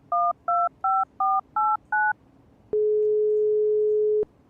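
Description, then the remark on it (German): Six quick telephone keypad tones beep in a steady rhythm as a phone number is dialed, each a clear two-pitch chirp, followed by a brief pause and a longer single steady tone with no voices present. “Hast du eine falsche Nummer eingegeben oder Keine was?”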